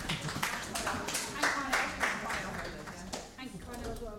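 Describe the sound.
A round of applause: many overlapping claps in a dense, irregular patter lasting several seconds, fairly soft, with murmuring voices blended underneath.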